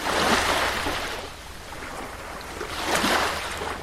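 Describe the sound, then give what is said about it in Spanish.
Ocean waves wash in and break, two broad surges of hissing surf swelling and receding over a low rumble, fairly loud, with no voices. “Pero no podemos despreciar el poder del agua y de las olas.”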